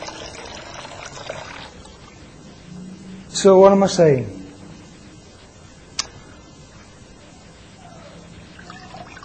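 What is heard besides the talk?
water trickling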